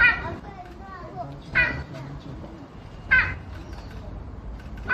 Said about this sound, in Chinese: 你可能会很好奇，云豹的叫声到底是什么声音？我们就来听一下。